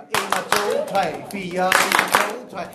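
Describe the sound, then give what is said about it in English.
Children at a summer camp in Denmark clap their hands in a steady rhythm while learning percussion like the group Stomp, sharp claps repeating under lively young voices that sing or call out alongside the beat. “the children clap”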